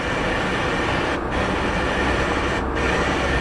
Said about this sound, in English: When you drive through the wide-open desert of northern Arizona, this is what channel surfing on the radio sounds like.